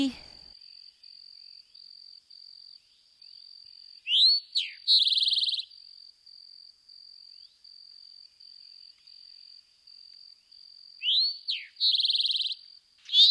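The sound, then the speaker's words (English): An eastern towhee sings its drink-your-tea song twice in grassy fields, about seven seconds apart: two sharp notes then a buzzy trill, clear over a steady high insect drone. “We'll now move a little more into the grassy or fields and listen to the eastern towhee with his famous drink your tea.”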